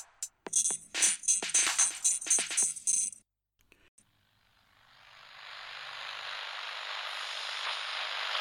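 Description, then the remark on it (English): Choppy bursts of crackling radio static cut in and out for a few seconds, then a brief pause before a steady wash of static hiss swells up and keeps building. No voices. “Located on the edges of your radio static, you've stumbled upon the Lost Signal, your podcast destination for tales of horror and the macabre, brought to life with voice acting and sound effects.”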